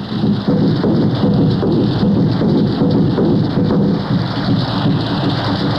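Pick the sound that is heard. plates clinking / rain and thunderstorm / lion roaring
rain and thunderstorm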